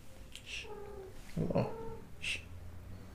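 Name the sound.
cat meowing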